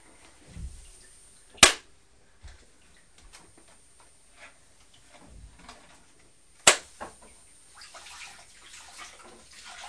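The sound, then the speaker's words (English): A tiny jewellery ring box snaps shut twice, each a sharp, loud click several seconds apart, with faint rustling and handling noises in between. “It snaps shut. That tiny jewellery box, a ring box.”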